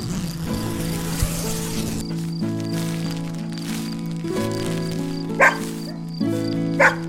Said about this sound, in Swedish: Vad är det nu som låter? Gnäll och skäll och tramp av fyra tassar. Det är bara hunden som vill komma in, säger Bubblan.